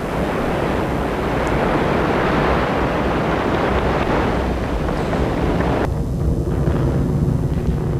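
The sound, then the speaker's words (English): The rocket 501 lifting off with a loud, continuous rumbling roar and dense crackling hiss; after about six seconds the upper hiss thins abruptly, leaving a deep steady rumble. No voices are heard. “37 seconds into the launch, the onboard computers decided 501 was 90 degrees off course.”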